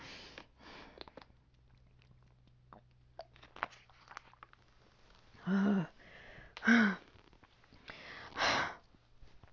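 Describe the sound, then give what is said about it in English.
Quiet sipping of water: a few soft handling clicks, then three separate gulping, breathy swallows spaced a second or so apart, with no talking. “Need a sip of water.”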